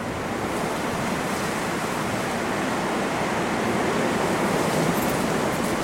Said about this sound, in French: quand ça souffle, ça souffle. Au plan d'Aou, il y a tellement de vent que certains enjoliveurs semblent des animaux marins qui ont été soufflés jusque-là.